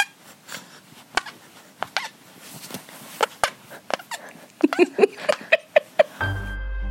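A boy demonstrates neck farts: a string of short, wet, squelchy pops, sparse and uneven at first, then a quicker run of about eight louder ones, ending in a steady low hum.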